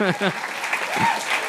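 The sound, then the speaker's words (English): An audience claps at a witty comeback in a steady, dense patter of applause lasting over a second, with voices briefly calling out and laughing over the clapping at the start. “People don't usually clap at my witty comebacks.”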